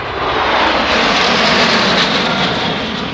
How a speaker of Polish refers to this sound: cztery samoloty. Leciały bardzo synchronicznie. Musieli na tym bardzo dużo opracować. To bardzo dużo samolotów.